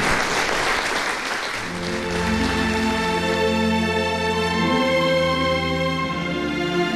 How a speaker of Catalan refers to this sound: D'aquesta manera, amb aplaudiments, acabava ahir l'acte de presentació de la reedició de Te deix amor, la mà com a penyora, a quarts llibres.